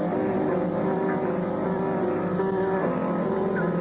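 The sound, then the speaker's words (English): A ship's engines, set ahead, rumble steadily with a low, droning hum and faint mechanical whine, holding an even, fairly loud level throughout as the ship slips its mooring and gets underway out of the harbor. No voices. “Put engines ahead.”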